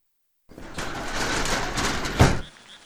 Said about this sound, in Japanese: 涼しいと思ったら雨だ。静かな雨。初夏に降るのはね、緑雨って言うんだって。綺麗な言葉だよね。